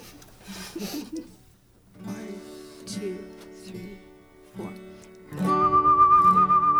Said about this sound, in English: And there's whistling.